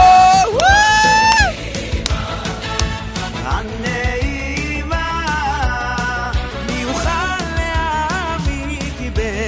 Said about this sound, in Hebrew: חבר'ה, ננה כפיים, וופו.